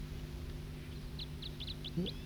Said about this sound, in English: One of those birds is singing, I believe.